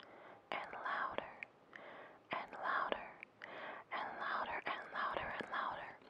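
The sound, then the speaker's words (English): Soft, breathy murmuring voices whisper all around in the air, seeming to come from the other stars, in quick overlapping bursts, a hushed, hissy chatter with no clear words that keeps up steadily and swells slightly louder toward the end. “All the while he was eating his breakfast, this murmuring kept getting louder and louder.”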